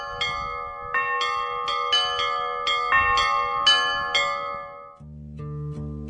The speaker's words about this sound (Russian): чтоб купола церквей и колоколен башни вновь возносились прямо в небеса, и чтобы вновь по всей земле окольной пел, разливаясь, голос колокольный.